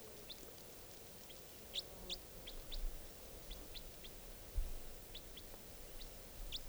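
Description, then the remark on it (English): A juvenile wild bird, perched on 461's cage, chirps repeatedly in short, sharp, high-pitched notes, irregularly spaced across several seconds, over a steady low rumble with one brief thump and no talking. “And the bird just flew down, and now it's perched on 461's cage.”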